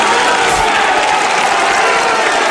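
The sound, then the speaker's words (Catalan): A crowd in the square applauds the capgrossos at a Tots Sants castells day, dense clapping blending into a continuous loud wash with cheering mixed in, sustained evenly for the whole stretch without any clear speech. “De moment, una estrella i aplaudiments a plaça pels capgrossos.”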